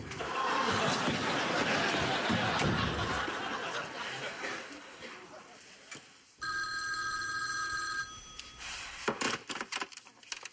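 A telephone rings once in a bright, electronic burst lasting over a second, following several seconds of noisy background bustle with some chuckling, then gives way to scattered sounds.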